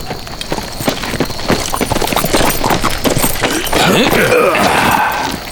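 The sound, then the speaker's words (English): Horses' hooves clip-clop in a steady, overlapping rhythm, fairly loud, as several riders approach a camp; a brief whinny-like cry rises near the end amid faint background voices. “and all six looked up as strangers rode toward the camp.”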